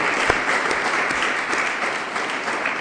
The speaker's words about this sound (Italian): e questa è una cosa bella, insomma, vorrei fare un applauso a loro che organizzano questa serata.